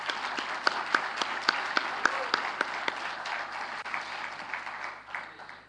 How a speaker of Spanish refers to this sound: Aplausos para ellos.